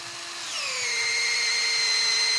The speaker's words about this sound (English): And if the drilling and tapping go according to plan, you put in a tap and hang up a bucket